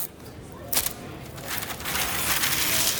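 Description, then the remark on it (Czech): Red wrapping paper crinkles and rustles as a hostess at a shopping centre gift-wrapping service folds and creases it around a box and ties bows, with a sharp crackle near the start and steady handling noise after. “přehýbá sklady a váže mašle na krabičku v červeném papíru.”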